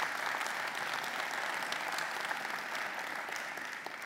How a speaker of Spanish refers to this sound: ¿Alguien libre? Levanten un fuerte aplauso si usted es libre. Pues ustedes son libres.